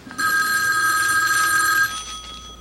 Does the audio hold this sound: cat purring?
no